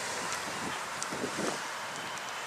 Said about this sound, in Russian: Вот ветреный день.